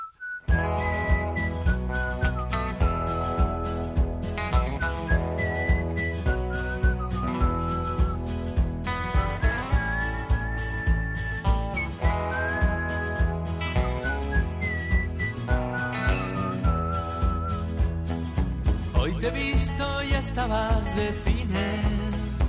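A clear, bright whistled melody rises and falls in long, sliding notes over a full band accompaniment with steady rhythmic percussion, sustained throughout with no talking.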